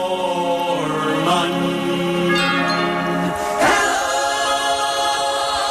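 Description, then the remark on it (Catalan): A loud, dense orchestral finale swells with sustained chords, then a bright burst of many bell-like chimes evoking the peal of church bells rings out and keeps pealing over the full ensemble, with no voices. “I acaba amb un hello final i amb una munió de timbres que, per la seva peculiaritat tímbrica, valgui la redundància, aboquen el so del repic de campanes.”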